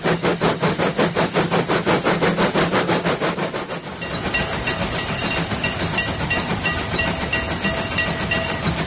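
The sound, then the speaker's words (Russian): Sound effects of a model railway: a model train rumbles along with a steady, rhythmic clatter of wheels, then shifts to a denser hissing, rattling rumble partway through. Loud and heard near the model track, with no talking. “Вблизи модельной дороги грохот поездов такой же, как и на настоящей железнодорожной станции.”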